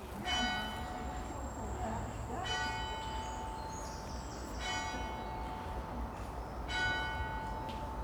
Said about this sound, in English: I also recorded the bell, which is rather nice. Have a quick listen to the bell.